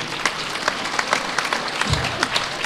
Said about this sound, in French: Oui, vous pouvez les applaudir.